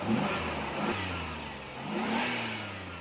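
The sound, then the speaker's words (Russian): A taxi loaded with luggage drives slowly along a street and stops at the gate of house number 17, its engine humming and revving, the pitch rising and falling with changes in speed, steady over broad road noise. “Такси медленно проехало вдоль улицы и остановилось прямо у ворот дома номер 17.”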